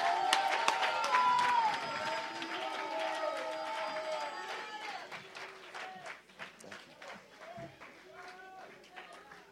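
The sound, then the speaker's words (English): An audience, told after prayers to clap, shout and go back to their seats, bursts into loud clapping and shouting, with many voices cheering at once; the roar is strongest early, then gradually thins to scattered claps and calls. “If you know you have victory this night by these prayers, come on, clap and shout and go back to your seat.”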